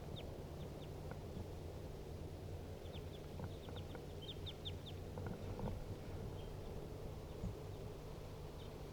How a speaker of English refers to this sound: Now they are sitting in the tree directly above the cage. Two wild birds calling.